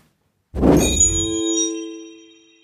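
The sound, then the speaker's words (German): A doorbell sounds a single bright ding with a dull knock at the start as the speaker's son arrives at the door after school, its ringing metallic tones fading out over about two seconds. No one speaks. “Steht mein Sohn vor der Tür.”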